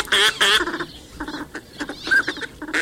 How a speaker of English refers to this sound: Northern pintail. Slender and elegant ducks seek shallow ponds and wetlands throughout the northern hemisphere.